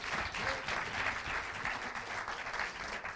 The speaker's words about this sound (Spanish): Y lo saludamos con un fuerte aplauso. Und begrüßen mit einem starken Applaus.